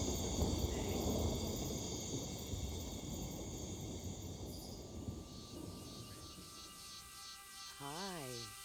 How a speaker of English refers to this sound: There's an ominous storm brewing out there.